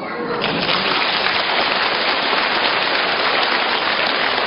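A steady wash of crowd applause, dense and even, continuing at constant loudness for several seconds with no voices standing out.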